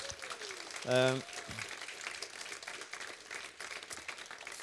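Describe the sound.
An audience applauds steadily for several seconds, a dense crackle of many hands clapping at once, with a brief voice rising out of the noise near the start.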